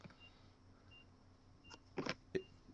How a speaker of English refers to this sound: I hear a beeping. Oh, that's UPS. Oh, okay. I was like, is there a bomb threat somewhere? I moved closer to it, so that's probably not good for me. Good. The truck is just backing up.